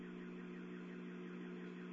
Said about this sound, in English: Do me a favor. Give me the keys to my car. The alarm. Just zing off the alarm.